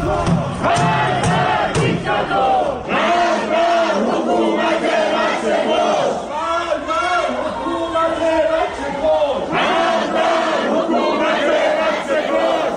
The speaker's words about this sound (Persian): این صدای معترضان در شهرک اکباتان است که میشنوید.